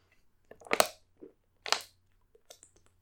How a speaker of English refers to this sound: Sorry about that. My water bottle caved in. My bad.